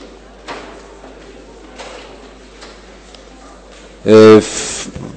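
Faint shuffling and soft knocks during a meeting, then near the end a loud, sharp door sound with a brief creaking tone and a rushing burst, as the doors to the adjoining rooms are shut.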